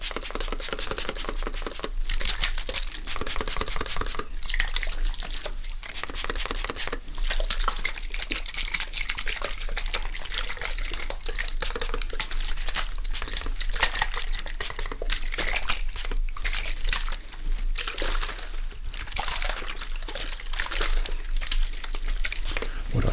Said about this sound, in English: Just activate the spray a little bit and make sure that it falls evenly on your head.